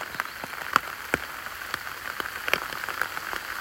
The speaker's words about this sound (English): they're still out here at Oxclose, just giving that lovely blue carpet to the woodland floor, which is quickly turning white as this hail continues to fall.